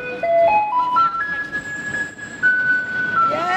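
A school bus yellow garbage truck plays its tinny electronic jingle as it arrives on a street, a melody of clear stepping tones that climbs and holds, loud, over a low rumble of street and engine noise.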